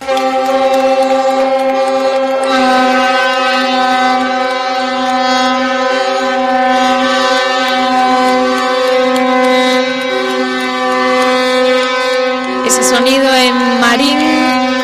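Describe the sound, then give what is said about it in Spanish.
Deep ship horns blare in a sustained, steady chord, joined by wavering emergency sirens, in the port of Marín; the loud harmonic tones hold for the full length, with a rising siren sweep near the end. “Aplausos, sirenas de emergencia o bocinazos como los que se escuchaban este miércoles en el puerto de Marín.”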